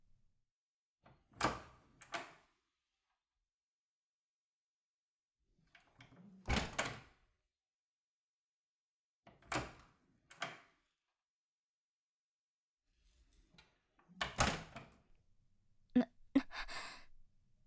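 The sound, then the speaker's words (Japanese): A door being opened, heard as a series of sharp clunks and rattles in separated bursts, some doubled, with quiet pauses between and a busier cluster of knocks near the end. “扉開けるよ。”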